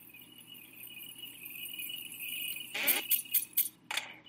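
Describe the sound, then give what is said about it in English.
A quick series of bright, chiming video game coin pickups, four or five short jingles in fast succession over a faint steady electronic tone, with no talking. “Got some more coins.”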